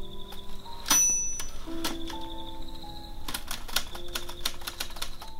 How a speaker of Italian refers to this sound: nelle mattine luminosamente vive mentre lui era al tavolo da lavoro e la macchina per scrivere, nel rumore dei suoi tasti pigiati, riempiva la casa come di un frinire di grilli.